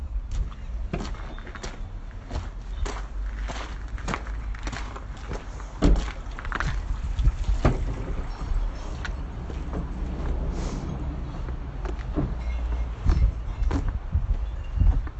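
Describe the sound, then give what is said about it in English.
Footsteps splash through puddles in a car park in wet weather, a steady walking rhythm, each step a wet slap, over a constant low outdoor rumble with no voices. “You can probably hear the puddles.”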